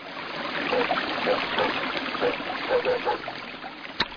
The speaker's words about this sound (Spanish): ¡Cuánta agua! ¡Cuánta agua cae en el río!